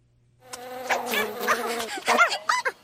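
A mosquito buzzes in a steady, whining drone that wavers in pitch for a couple of seconds, alone after a brief quiet start.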